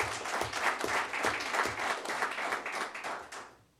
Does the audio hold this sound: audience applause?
yes